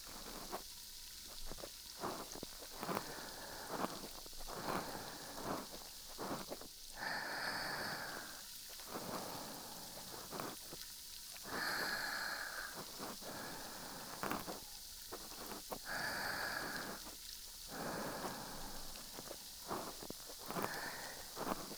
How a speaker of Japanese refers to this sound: 力抜いて、シュワシュワな音と雨の音だけ感じてね。